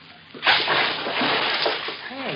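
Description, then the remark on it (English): A sudden loud splash as a man jumps out of a boat into water, followed by a couple of seconds of churning, sloshing water as he wades ashore; a faint voice is heard briefly near the end. “He jumped out of the boat. Yes, he's wading ashore.”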